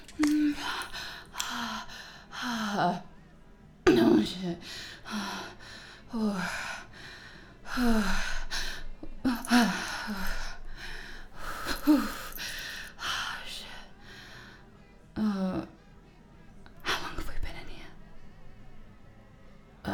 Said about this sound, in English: The heavy breathing. It was a panic attack. Crazy. I'm sweating from the panic attack.